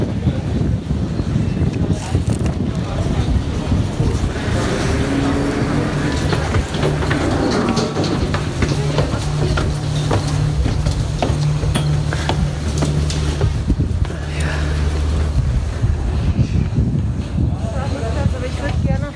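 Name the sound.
on board a boat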